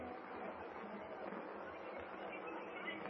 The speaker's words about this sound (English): There's the murmur of the crowd. Yes.